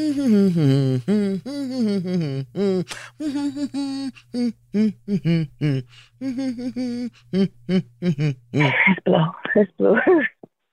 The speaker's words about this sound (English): You want to blow your nose? Yeah, let me blow it. Okay, go blow your nose. I'll wait for you.